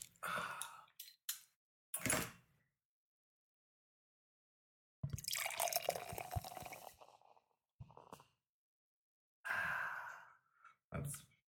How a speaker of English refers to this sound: Sounded great. Did actually. We should do like bottle opening porn where it's just sounds of bottles getting opened. Like, glug, glug, glug, glug, sizzle, sizzle.